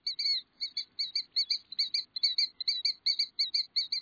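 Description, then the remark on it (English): Killdeer calls in a rapid, insistent series of shrill, high notes, about four or five per second, repeating steadily for several seconds with no voices and a quiet background. “To think of the killdeer as a bird strictly of the shore is misleading”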